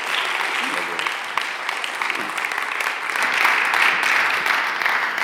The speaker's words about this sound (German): Geben wir ihm einen fetten Applaus.